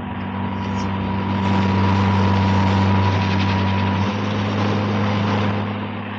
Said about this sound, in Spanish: ¡Ahí está! ¡Nos persigue el helicóptero! ¡Nos van a atrapar!